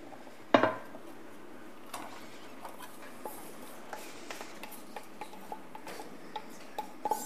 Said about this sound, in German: In der Pfanne werden wir zuallererst die Zwiebeln anrösten oder andünsten, besser gesagt.